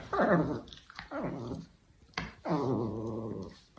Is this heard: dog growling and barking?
yes